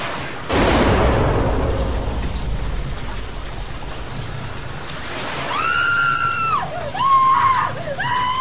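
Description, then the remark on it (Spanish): A single loud gunshot cracks out inside a house and rumbles away over steady rain, then after a few seconds a woman's high, wavering scream rises and breaks off in several cries. “Me sacudo los zapatos en el futuro y justo al abrir la puerta oigo un disparo dentro y un grito de mujer.”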